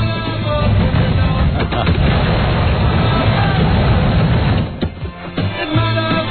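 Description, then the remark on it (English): A heavy mechanical door grinds open with a loud, steady rumbling whir for several seconds, then a few clunks and knocks as it comes to a stop. No voices. “I love that sound. Opening the door.”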